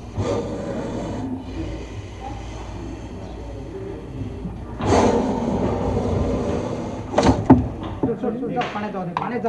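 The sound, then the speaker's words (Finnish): A meter-long snake in a glass case hisses angrily in sharp, breathy bursts while striking its tail against the glass walls in a few irregular taps, picked up by a microphone 20 centimeters away, over a low steady background rumble. “Kieli lipuu halukkaan näköisesti edestakaisin, vihaisena se lyö hännällään seiniä vastaan. Kopina ja vihainen suhina kuuluvat siitä 20 sentin päässä olevan mikrofonin välityksellä.”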